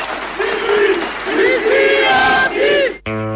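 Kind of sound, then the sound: crowd, crowd cheering and applauding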